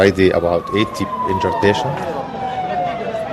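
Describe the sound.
An ambulance siren wails with a steady, slowly falling tone outside a health facility in the Gaza territory, while people talk loudly over it for the whole few seconds.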